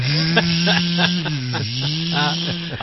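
A vacuum cleaner motor drones steadily up close, a loud buzzing hum whose pitch sags briefly midway before recovering, with faint rhythmic pulses running through it.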